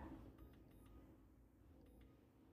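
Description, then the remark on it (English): A few short electronic beeps from a timer being set for brownies baking at home, two close together, then a pause and another, fairly quiet over a low background hum with no talking. “Put a timer on here.”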